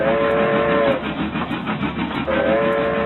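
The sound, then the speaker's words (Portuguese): A train rumbles along steadily with clattering wheels, on a journey through Rondônia in the Amazon, while a steady whistle sounds twice, at the start and again near the end, loud. “Então bora embora, que a nossa viagem vai ser de trem.”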